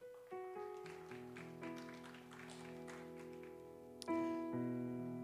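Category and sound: crowd, audience applauding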